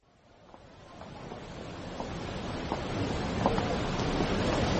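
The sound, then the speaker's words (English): A river in torrent after recent rain roars with a dense, steady wash of water that builds gradually louder, continuous, with no voices. “My dear, have you seen the river? What a torrent after all our recent rain.”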